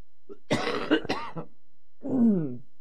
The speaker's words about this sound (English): All right, well, I'm clearing my throat and so forth.